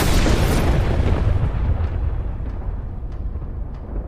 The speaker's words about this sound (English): And when a super high-voltage power line with no rubber around it gets too close to a tree, zap! And in fact, it can be actually more violent than what you described. That's an arc flash or looks like a lightning bolt, basically.